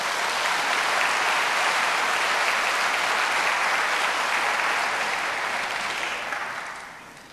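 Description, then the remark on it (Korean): An audience at Kyunghyang Presbyterian Church applauds to congratulate 21 newly confirmed church members, in a steady, dense wash of clapping that holds strong for about six seconds, then tapers off toward the end. No one speaks. “축하의 박수 주시기 바랍니다.”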